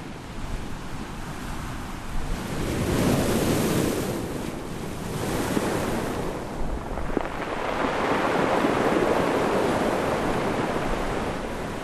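ocean waves and surf

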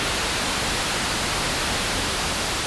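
white noise static

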